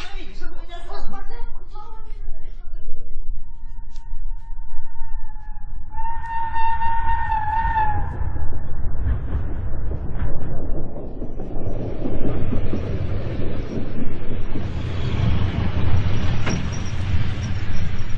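A busy railway station: a train horn sounds, then the heavy rumble of an arriving express train fills the scene, with a crowd murmuring faintly throughout.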